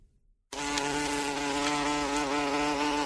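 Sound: bee buzzing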